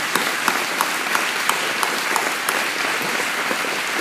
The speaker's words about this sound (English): I've been thinking about us clapping all day long. Have you been clapping today, anybody?